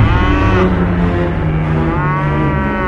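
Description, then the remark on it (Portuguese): Oxen stumbling at Nacon's threshing floor low loudly, a deep, drawn-out moo rising and falling in pitch, with a second overlapping call that fills the whole stretch without any pause or talking. “Quando chegaram ao campo de descascar cereais que pertencia a Nacon, os bois tropeçaram.”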